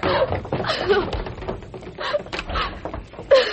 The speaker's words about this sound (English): Open that front door and run for it.